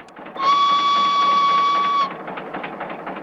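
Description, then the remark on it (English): A steamboat chugging along a river gives a steady, high whistle blast for about a second and a half, then a quieter, rhythmic chugging of the engine. “A steamboat chugs along the river.”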